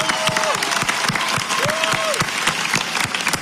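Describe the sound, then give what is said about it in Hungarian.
A large crowd at a gathering in Budapest applauds loudly and steadily for the Hungarian police, dense clapping filling the whole stretch, with a couple of rising-and-falling whistles cutting through and scattered cheers underneath. “Egy nagy tapsot a magyar rendőröknek, akik az emberek mellett álltak.”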